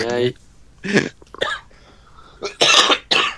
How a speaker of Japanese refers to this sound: せき込むよ、そりゃ。